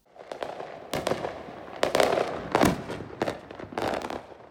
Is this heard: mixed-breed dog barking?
no